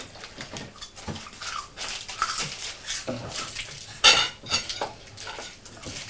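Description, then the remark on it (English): Cheese being grated: a series of uneven, hissing rasps against a metal grater, with quieter scrapes in between and one sharper, louder metallic scrape partway through. “I just wanted to grate one more bit so I can see.”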